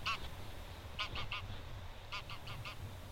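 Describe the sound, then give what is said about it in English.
A flock of migrating geese honks in short bursts: a single call, then a quick trio, then a run of four, set over a steady low rumble like wind, with no talking. “I am the rhythm of wing beats and cries, skeins of migrating geese.”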